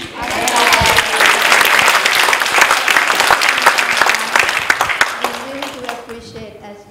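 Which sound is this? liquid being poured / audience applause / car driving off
audience applause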